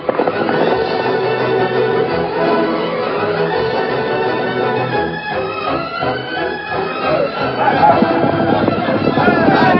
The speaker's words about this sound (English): Day and night, the rattle of gunshots banged away.